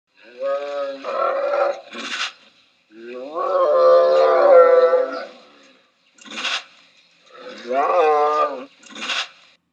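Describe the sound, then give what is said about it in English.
A tiger gives low, moaning calls of greeting and contentment in three drawn-out bouts, each a rough, tonal groan broken by breathy huffs, with brief pauses between them. “However, it's not a growl that you'll hear, but rather a moan, which is the sound of greeting and contentment made by this large predator.”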